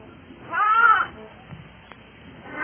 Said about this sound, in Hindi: जब भेड़ ने गड़रिये को देखा तो बड़ी प्रसन्न हुई। उसने एक बार फिर आवाज दी।